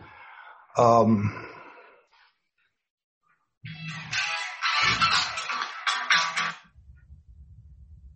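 A phone ringtone goes off for an incoming call: a short bright burst of tones, a brief silence, then a longer, busier stretch of ringing melody that stops abruptly, fairly loud.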